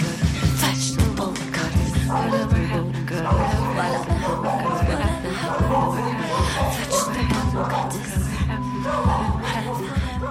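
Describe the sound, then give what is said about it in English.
A dog's sharp barks punctuate dense, busy percussive music on a record made with thrift-store percussion, such as containers wrapped with rubber bands and empty oil cans filled with dirt. The barks recur irregularly among steady rhythmic hits and clattering taps throughout. “There's you know, and the barking dog is part of that percussive atmosphere.”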